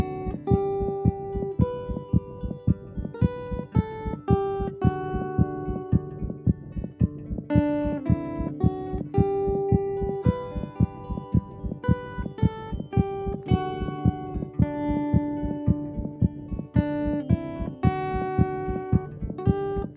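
A recorded patient's heartbeat thumps steadily beneath a gentle melodic song, its soft low pulses keeping an even rhythm throughout while the music plays over it, with no one talking; a heartbeat recording made by a music therapist at Helen DeVos Children's Hospital in Grand Rapids.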